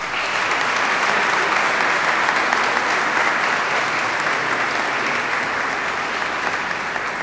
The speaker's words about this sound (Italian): Allora io vorrei che insieme a tutta l'assemblea, per questi genitori, per questi bambini, per le loro famiglie, facciamo un applauso.